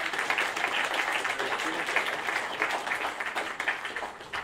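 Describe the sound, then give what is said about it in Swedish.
An audience applauds the worship singers and helpers steadily for several seconds, a dense, even wash of many hands clapping at once with no single beat standing out. “Ja, ge dem en applåd.”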